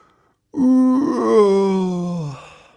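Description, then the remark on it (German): A voice imitates wind howling outside with one long, loud, wavering moan that slowly slides downward in pitch before fading out, with nothing else around it. “Da hört er draußen schon den Wind heulen und den Regen gegen das Dach plattern.”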